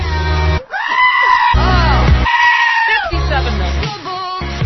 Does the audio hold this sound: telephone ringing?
no